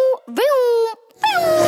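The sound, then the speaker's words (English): A voice imitates a fast car zooming past: a short low hum, then a sweeping rising and falling 'neeeow', and another sliding whoosh after a brief pause, loud and buzzy. “Does that sound like a fast car? I got a fast car.”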